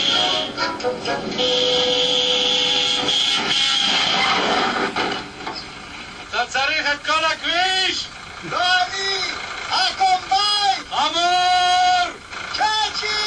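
A donkey brays in a string of loud, wheezing hee-haw bursts, following a few seconds of sustained droning tones at the start.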